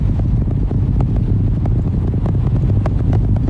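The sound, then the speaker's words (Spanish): A deep, continuous roar of rocket engines during launch ascent, the engines building thrust again after throttling down through a critical zone, continuing the climb toward space; heavy low rumble laced with crackling bursts, loud and unbroken throughout with no voices. “Y los motores están aumentando su fuerza de nuevo para continuar el ascenso hacia el espacio.”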